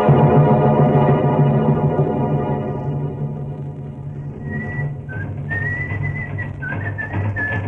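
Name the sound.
man whistling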